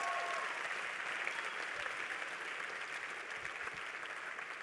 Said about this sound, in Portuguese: Por favor, dá uma salva de palmas para aquilo que Deus fez.